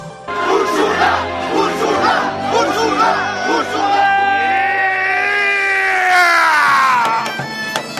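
A man shouts loudly and close up, first in rough, broken bursts and then in a long, drawn-out battle-style yell that gradually falls away, with faint crowd noise behind.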